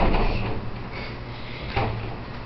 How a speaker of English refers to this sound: You'd hear the door close.